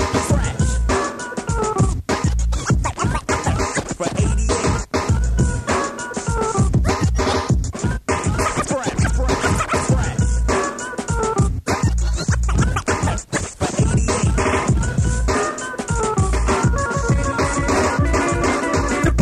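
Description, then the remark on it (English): DJ turntable scratching cuts rip over a loud, driving hip-hop beat, with quick rhythmic back-and-forth scratches repeating throughout the full-band music and no one talking. “He lets loose a few cuts, and the onslaught begins.”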